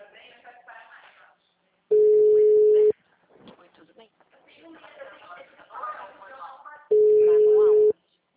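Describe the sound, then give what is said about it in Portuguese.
Two loud, steady, low-pitched telephone busy-signal beeps, each about a second long and spaced several seconds apart, as a caller fails to get through, with a person talking over the phone in the gap between them. “Tipo assim, eu pedi umas listas de cadeias, aí eu tô ligando, não tô conseguindo falar no telefone, aí tipo, depois eu vou e copio e mando oi, tudo bem.”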